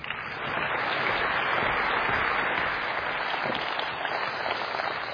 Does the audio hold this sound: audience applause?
yes